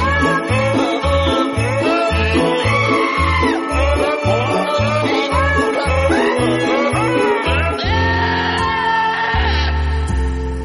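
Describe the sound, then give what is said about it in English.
Goats bleat along to a bouncy Christmas tune in a clip from an advertisement for a Christmas album sung by goats. Their wavering cries ride over a steady pulsing beat and bright backing music, loud throughout, with no one talking. “The Christmas album sung by goats.”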